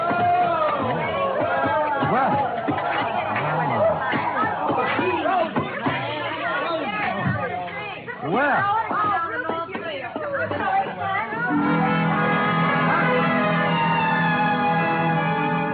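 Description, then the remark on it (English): A group of people back from the ski runs chatter all at once as they come stamping indoors, pulling off gloves and unzipping parkas. Their overlapping voices are lively until the babble fades near the end into a steady, sustained tonal drone. “They came stamping in, pulling off gloves, unzipping parkas, and if it hadn't been for the grown-up dialogue, looking all the world like a group of carefree children.”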